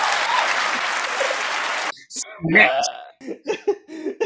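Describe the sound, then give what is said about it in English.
A show audience claps, after being asked to clap if they ever wanted to kill somebody, in a dense, steady burst for roughly two seconds, then the applause cuts off abruptly and voices follow with talking and a cough-like sound. “But clap if you ever wanted to kill somebody.”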